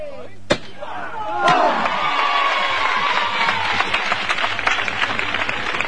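The neighborhood crowd of the barrio de La Plata applauds and cheers as the paso is raised, sustained dense clapping with shouts over it, opened by a couple of sharp loud bangs.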